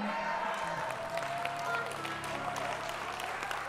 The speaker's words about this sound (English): I'm preaching way better, y'all shouting up in here.